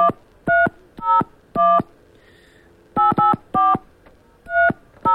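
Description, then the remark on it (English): A series of touch-tone phone keypresses dialing a number, about nine distinct beeps in quick uneven bursts, clear with nothing else around them. “Let me dial that double-wide trailer and listen to this horrible, archaic phone system they have.”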